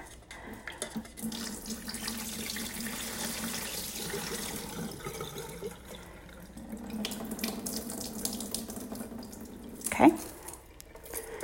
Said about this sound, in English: Okay, and then I'm going to rinse it again. Still super starchy. Swirl the rice around in the water.